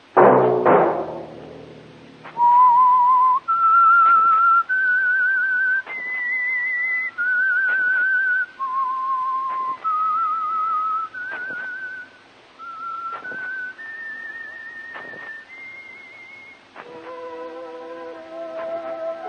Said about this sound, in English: Let that whistle be your signal for the Signal Oil program, The Whistler, each Wednesday night at the same time, brought to you by the Signal Oil Company, marketers of Signal gasoline and motor oil and fine quality automotive accessories.